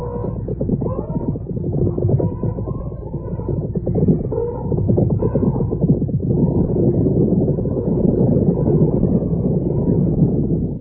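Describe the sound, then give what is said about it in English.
A loud, continuous thundering rumble of an elephant stampede on the way to Montgambo, with heavy pounding and low throbbing that never lets up, plus occasional higher tonal cries that may be trumpeting. “It's an elephant stampede.”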